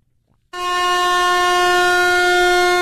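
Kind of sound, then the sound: signal or alarm, air horn blast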